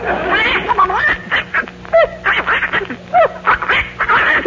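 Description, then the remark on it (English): A duck quacks over and over in quick, uneven bursts, nasal and fairly loud, with short gaps between the calls and no talking. “She's very popular with the other ducks.”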